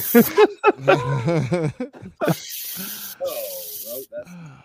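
Giggly, voiced sounds from people give way to a steady hiss of a silly string aerosol can sprayed by children for a couple of seconds, with faint voices under it.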